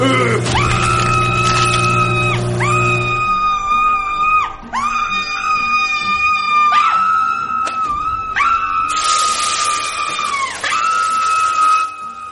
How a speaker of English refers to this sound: what's all that screaming about?